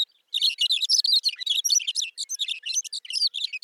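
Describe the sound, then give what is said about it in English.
A thick-billed longspur delivers a long, burbling song of rapid, jumbled high-pitched warbles and twitters, continuous, with no one talking, on the short-grass prairie of the high plains of eastern Montana in summer. “The bird's long, burbling song helps create the summer soundscape of the high plains.”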